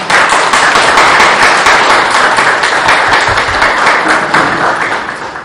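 A crowd applauds steadily after councillors are thanked for chipping in to buy a new accordion, dense overlapping claps sustained at an even loudness for several seconds before easing slightly toward the end.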